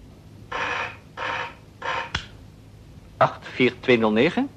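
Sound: telephone ringing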